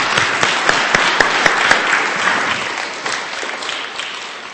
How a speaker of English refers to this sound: Is that okay, church? That's great. Let's just welcome him with a big round of applause.